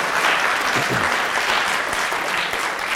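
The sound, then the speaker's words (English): Sustained applause from a sizable audience at a scientific talk at a research institute, a dense, steady wash of many hands clapping at once with no pauses, loud throughout. “You guys just love clapping.”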